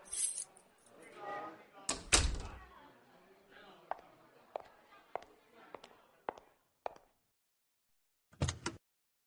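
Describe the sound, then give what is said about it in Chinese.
Car keys jangle and clink in a few quick bursts as they are handed over, with sharp metallic taps spaced out and a final brief rattle after a pause; a voice murmurs faintly at the start. “外边没地方坐了，把你的车钥匙给我吧，我去你车上等你。”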